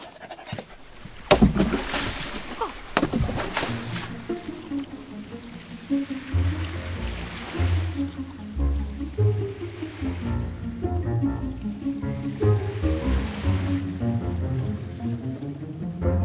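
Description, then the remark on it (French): Water sloshes and splashes around a small boat, with a few sharp bursts early on, then a steady lapping of waves that continues beneath a rising tonal, music-like backdrop. “Allons-y, Milou. Ne nous éternisons pas davantage sur ce bateau.”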